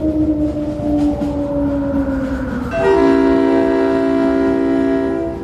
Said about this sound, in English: It's good to be back on the train.